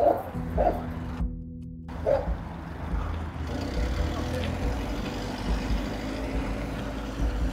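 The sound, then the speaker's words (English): Dogs bark in a few sharp bursts early on at a scrapyard, then fall quiet while a steady low rumble like an idling engine fills the rest of the outdoor scene. “The dogs, man. Jeez.”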